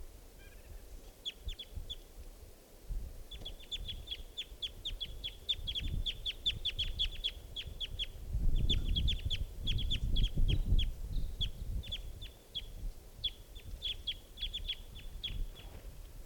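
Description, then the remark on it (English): A young, immature wild bird, bird 508, calls in flight with rapid runs of high, sharp chipping notes in several bursts, clearly audible over a low rumbling background, with no voices present. “Oh, that was it calling in flight.”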